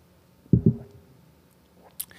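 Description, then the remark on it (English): A quiet drinking sound of someone sipping a homemade oat milk latte: two soft, low gulps in quick succession, then a pause and a brief, sharp high-pitched click, with no talking. “I'm just gonna have another sip of delicious oat milk latte that I made myself.”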